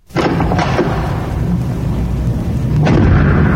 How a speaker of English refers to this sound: It is the locking door. You know the one I'm talking about, like when you're in a warehouse or maybe a studio somewhere, and it has that big bar on it, and you push it, and so you get to go out, and then all of a sudden it'll close behind you